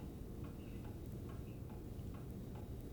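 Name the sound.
refrigerator running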